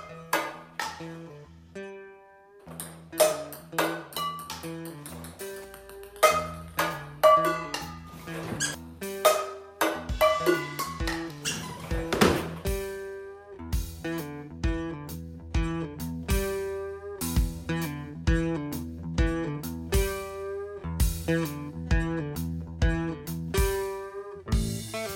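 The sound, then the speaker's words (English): A giant orange mascot bounces ping pong balls off pots and pans in a quick, steady rhythm, each hit giving a bright metallic ping at a different pitch, so the ringing taps form a tune-like pattern with no voices. “I can't guarantee that it will be quite as entertaining as watching a giant orange mascot bounce ping pong balls off of pots and pans, but we at Only a Game are doing our best to bring you great stories, even during this pandemic.”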